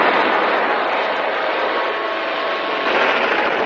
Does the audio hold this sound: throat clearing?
no